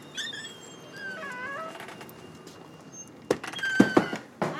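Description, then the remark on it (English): A door creaks open with a few squeaky, wavering whines, followed by several sharp clunks and rattles of the latch, with no voices. “The door opened up, and bright light shone in.”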